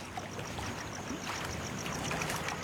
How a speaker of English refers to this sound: The Reverend Father J.W. Lang and a fellow priest got into a boat and went on this lagoon to try to trace who the so-called singers are.